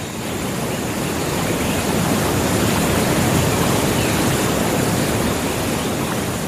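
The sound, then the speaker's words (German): A steady, dense roar of rushing water from a waterfall at the La Paz waterfall gardens, about 90 minutes' drive from San José, fills the whole stretch without pause, loud and even, with no voices. “Rund 90 Minuten Autofahrt entfernt, die Wasserfallgärten von La Paz.”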